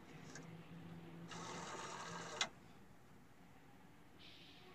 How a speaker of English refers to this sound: This one? Mm-hmm, that's the one. She dials 0 on the phone.